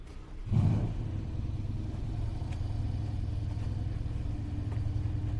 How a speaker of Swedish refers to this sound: Nu är det en fräsig bil. Ett dollargrin, som min pappa skulle säga, som startar här bredvid mig.